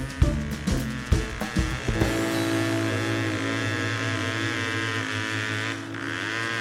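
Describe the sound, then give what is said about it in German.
An engine starts with a few rough sputtering bursts, then settles into a steady, loud idle with a constant low rumble. “Können Sie mal den Motor so gut machen? Moment, ich muss erst mal den Motor so gut machen.”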